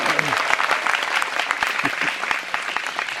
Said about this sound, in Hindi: सब तालियां बजाओ, हरि हरि बोल।